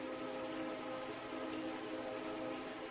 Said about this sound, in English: The train whistle that you hear outside of the dwelling place in which each of you sits at this time is also a wind instrument, expressing noise or signal through the expression of air.